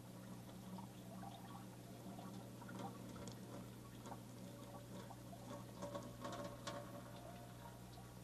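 Very hot water, just taken off the heat, pours and splashes steadily with steam coming out, a broad rushing hiss, faint clinks, and occasional sharper drips and ticks; no one speaks.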